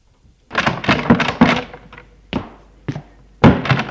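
door opening

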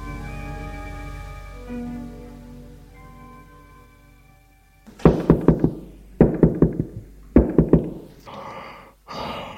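knocking on a door

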